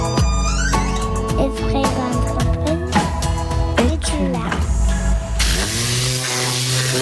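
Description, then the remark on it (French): A steady mechanical whir with shifting tones runs throughout, then a loud burst of pressurized air from a sprayer hisses continuously onto a car's plastic parts for the last second or so. “Ça permet d'envoyer de la pression sur tous les plastiques de la voiture.”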